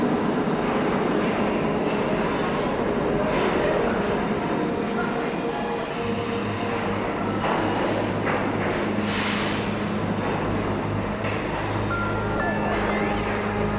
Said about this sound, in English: The arrival of the train to Metropolis Central Station will be at 8.30 hours. The train will stop at Platform 9.